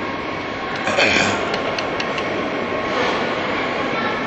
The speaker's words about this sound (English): I think the trains make kind of a haunting sound, and you'll see what I mean as it comes closer. That sound that you hear, the high pitch, it's kind of scary if you think about it.